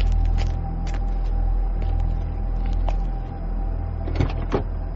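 A car door is opened very slowly and someone steps out of the car, over a steady low engine rumble and hum, with a couple of sharp latch clicks near the end; no one speaks.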